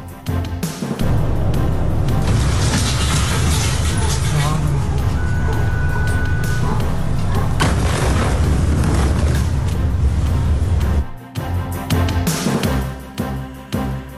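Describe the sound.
A massive explosion in Beirut, Lebanon, heard across the whole capital and its suburbs, roars through the city, a loud, deep, sustained rumble lasting around ten seconds before cutting off abruptly, with indistinct voices mixed into the din.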